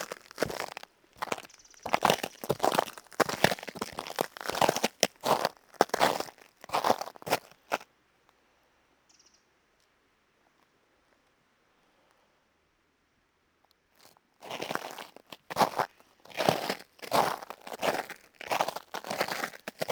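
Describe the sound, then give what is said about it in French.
Loud, dry crunching like biscuits being crushed, a dense run of crackly crunches that stops for several seconds of near silence, then resumes just as sharply. “On dirait des biscuits.”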